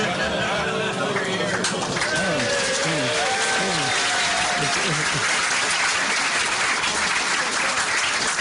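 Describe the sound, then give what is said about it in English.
An audience claps steadily and loudly throughout, a dense wash of hand claps with a few voices and a bit of murmuring mixed in at the start. “Monsignor, I have no idea why they're clapping.”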